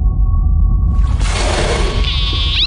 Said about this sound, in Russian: Что это? Это просто кит.